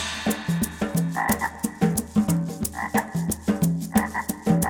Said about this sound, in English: Frog appears in the spring. Lonely now, he starts to sing.